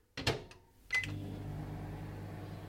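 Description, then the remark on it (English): A microwave door thuds shut, a single short beep sounds, and the oven starts up with a steady electrical hum that continues to the end, heating three Weetabix mixed with milk. “Mixed with milk and put into the microwave.”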